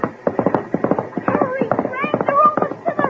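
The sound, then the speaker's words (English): Horse hooves clip-clop in a quick, steady rhythm, the hoofbeats continuing throughout while voices call out over the second half. “you're not going to take that horse back into the water, are you?”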